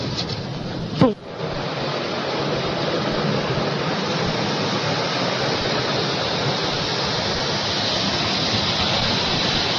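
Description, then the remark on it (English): A drive-through car wash sprays water in a steady, dense hiss that roars without a break, with a single sharp knock about a second in. No voices are heard over the constant rush. “She's scared of a drive-through car wash.”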